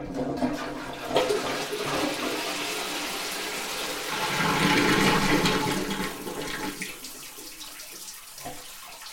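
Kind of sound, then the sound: household object, toilet flushing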